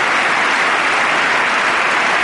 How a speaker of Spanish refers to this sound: Nos encontramos en Washington en el discurso que dará el presidente de los Estados Unidos, Barack Obama, al Congreso americano. Entra el jefe de Estado en medio de una ovación estruendosa.